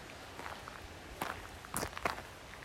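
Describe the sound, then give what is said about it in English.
Footsteps crunch along an outdoor path at a steady walking pace as a person walks away from a creek side, several distinct steps, fairly soft over a quiet background with no talking. “Continuing on my walk.”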